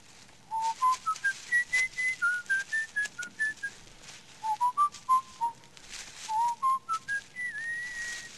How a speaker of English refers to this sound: What's that you're whistling? I don't know, some song I picked up.